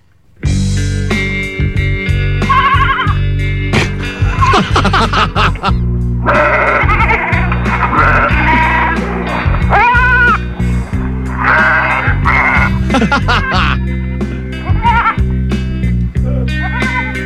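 Sheep bleat again and again, loud, their wavering cries layered over a steady droning musical backing that runs throughout, as part of a performed song.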